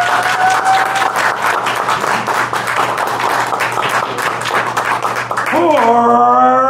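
An audience claps steadily and densely for several seconds, loud, with a whistle early on and a rising cheer breaking out near the end, clapping to vote for a contestant for second place.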